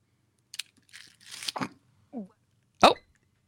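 A woman sputters and coughs after something goes down the wrong pipe: a short cough, a rough, breathy hacking stretch, a small strained gulp, then one loud, sharp cough to finish.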